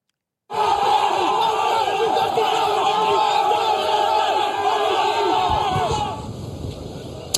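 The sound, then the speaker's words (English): A huge crowd of Dodgers fans roars, cheers and shouts in the streets outside Dodger Stadium at night, waving flags and lighting fireworks after the team's 8th World Series title, in a dense, continuous wall of sound that stays loud for several seconds before easing off slightly at the end. “Fans cheering, waving flags, blocking the streets and lighting fireworks, celebrating after the Boys in Blue captured their 8th World Series title in franchise history.”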